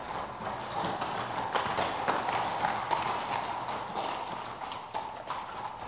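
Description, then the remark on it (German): Several horses' hooves clip-clop steadily as the horses are brought out, a dense overlapping patter of hoofbeats with a faint wash of background noise and no voices. “Endlich kamen die Räuber wieder heraus und brachten auch ihre Pferde mit.”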